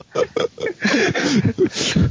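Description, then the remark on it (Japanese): A quick run of three short, throaty coughs, then a rougher stretch of hoarse, voiced coughing and throat sounds, fairly loud and with no clear talking over it. “やってるから、あ、咳してる。 咳してるぞ。”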